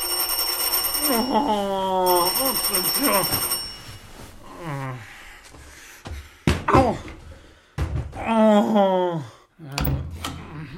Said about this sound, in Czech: Hlava mě bolela jako střep a když zazvonil zvonek...